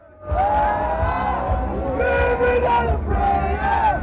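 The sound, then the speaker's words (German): A loud festival crowd at the Bergkirchweih fair in Franconia roars steadily, many voices shouting and cheering at once, with rising and falling sung or yelled tones riding over a dense, constant babble. “Es ist da gerade so ein Fest. Die sogenannte Bergkirchweih.”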